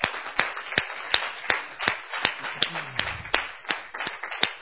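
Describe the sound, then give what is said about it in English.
An audience claps together for the Lord Jesus Christ in a steady, even rhythm, sharp echoing claps landing about three times per second, with no one speaking. “let's just give the Lord Jesus Christ a round of applause because He's worthy.”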